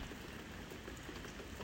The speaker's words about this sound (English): It's raining. I'm wet already, okay? I'm gonna breathe. I'm listening. I hear the crow mostly. I hear the rain.